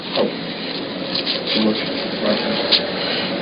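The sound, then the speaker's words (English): Bible pages being flipped through to find Ephesians, a steady run of papery rustles and soft swishes with a few louder turns standing out, continuing for the full few seconds. “I got to get Ephesians here.”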